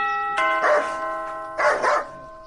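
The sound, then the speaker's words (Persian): A dog barks in two short bursts of a couple of barks each, close and fairly loud, over a steady ringing doorbell tone as someone rings the bell at a house gate. “اوهوه چی یک سگ خطرناک داره.”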